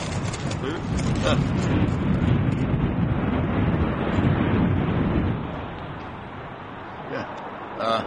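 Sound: strong wind blowing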